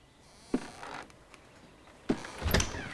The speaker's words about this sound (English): She replaces the vase and tiptoes past the parents' room. The door opens.